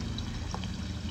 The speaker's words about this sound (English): God, what does have to rain on the day of our graduation party?